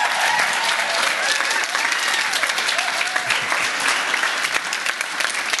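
Sustained audience applause, a dense steady wash of clapping hands holding loud and even throughout, with faint voices mixed underneath.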